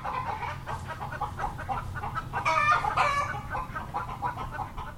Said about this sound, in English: Bird flocks are always an interesting combination of gregariousness and intolerance.